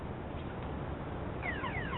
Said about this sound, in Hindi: मेरी गाड़ी का सेफ्टी अलार्म बज रहा है।